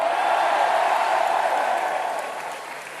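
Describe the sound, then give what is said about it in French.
Sustained applause from a large audience for the candidates Fillon, Nicolas Dupont-Aignan, Benoît Hamon, Jean Lassalle, Jean-Luc Mélenchon and Philippe Poutou, a dense wash of clapping that holds steady for a few seconds and then gradually eases in volume, with no speech over it. “Merci à vous de les avoir tous et toutes applaudis à l'instant.”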